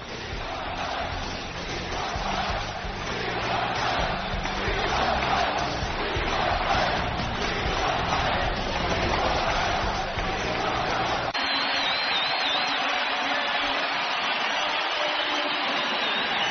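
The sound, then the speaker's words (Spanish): A huge basketball arena crowd stands and chants "We want Mike" in unison, calling for him to return to the court, a dense, loud, rhythmic roar that holds steady, then about two-thirds through gives way to thinner, higher-pitched cheering and whistling. “Son más de 5 minutos de todo el pabellón de pie gritando "We want Mike".”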